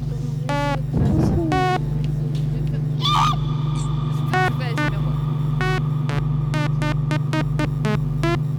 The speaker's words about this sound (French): Il y a le bruit d'un aspirateur.